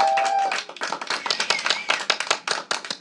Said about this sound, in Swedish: Tack så jättemycket till all fina publiken. En applåd för er. Tack så mycket.